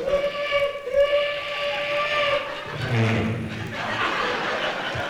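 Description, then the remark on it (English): A voice imitates a train whistle with a steady, sustained hoot lasting a couple of seconds, followed by soft chuckling and breathy laughter. “And every time I went through there, I made the sound of a train whistle, you know?”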